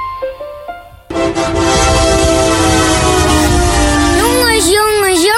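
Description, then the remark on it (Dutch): A loud, sustained truck horn blares over a heavy rumbling engine, holding a steady pitch before wavering and bending downward at the end. A brief, fainter murmur comes just before it. The truck collects a new stock of campers every week for Hazenberg Campers in Scheemda. “Wat een mooie vrachtwagen!”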